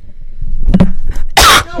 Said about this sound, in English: You cough into the mic.